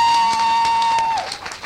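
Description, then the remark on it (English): Audience applause, a dense patter of many hands clapping, with a steady high whistle-like tone running over it that slides down and fades as the clapping thins out at the end. “Come on, applause.”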